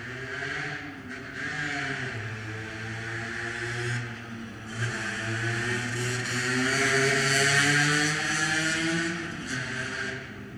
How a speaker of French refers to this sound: Une place où les gens passent, il y en a peu qui s'arrêtent. Il y a des voitures surtout, puis il y a un monsieur qui vient de passer à pied, qui m'a souri.